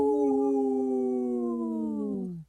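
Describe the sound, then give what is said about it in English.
A sustained wolf-like howl from two human voices, one long wavering tone that slowly falls in pitch before cutting off, loud with no talking. “I only heard two voices there. But hey, we are here with two howls.”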